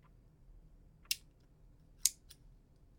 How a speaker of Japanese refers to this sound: あとは紐をハサミで切って、ちょうどいい長さに。